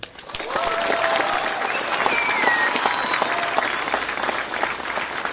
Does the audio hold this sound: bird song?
no